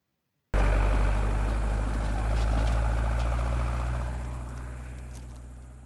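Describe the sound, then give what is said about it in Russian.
A car engine starts abruptly with a loud, steady rumble, then slowly fades as the vehicle, carrying crates of potatoes, drives away toward the town. No voices are heard. “Так мышка вместе с ящиком попала в машину. Машина поехала в город.”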